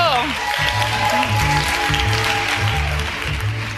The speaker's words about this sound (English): Round of applause